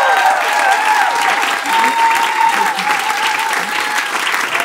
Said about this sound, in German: Ein extra Applaus nochmal. Bravo.